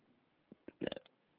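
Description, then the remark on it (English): A short burp, heard as a quick cluster of rough, gurgling pulses lasting under a second against a quiet background. No one speaks. “Excuse me, I meant to fart.”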